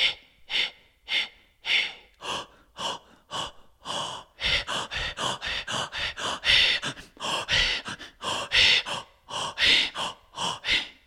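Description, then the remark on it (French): A short rhythmic breathing sequence (a rhythmic breath solfège): a steady series of sharp breaths, evenly spaced at first, then speeding into quicker, denser bursts of inhales and exhales with no talking. “C'est un petit solfège qui permet de fluidifier la respiration, fluidifier le souffle, pratiquer et fluidifier son instrument pour bien qu'il résonne.”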